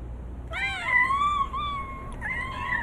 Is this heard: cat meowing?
yes